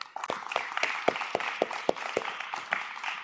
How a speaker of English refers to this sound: I want to take a moment and just give a round of applause to all of the students who were up here leading us in worship.